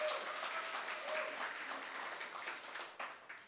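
A crowd applauds loudly for the company Atomy, dense overlapping claps forming a continuous wash of noise that holds for a few seconds and then thins toward the end, with a faint voice briefly audible early on.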